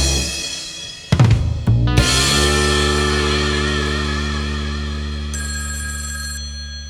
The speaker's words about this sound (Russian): Зазвонит твой телефон на проводе